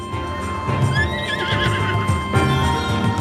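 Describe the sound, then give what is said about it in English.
A summoned horse lets out a loud, quavering neigh near the start, while hooves clip-clop in a steady rhythm underneath throughout. No one speaks. “You can summon a horse.”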